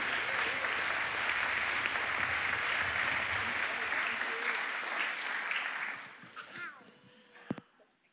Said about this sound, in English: Why don't we welcome these guys? Let's welcome them. Give a clap for them.